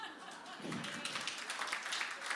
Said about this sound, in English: Listen, you cannot make everybody happy. Come on, who clapped?